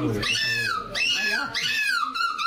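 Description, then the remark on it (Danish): A seagull gives three loud, drawn-out mewing calls in quick succession, each sliding downward in pitch, with a slightly cat-like quality. “Jeg ved, jeg synes, jeg var lidt i tvivl om, hvad det var til at starte med, men til slut kan jeg godt høre det en måge.”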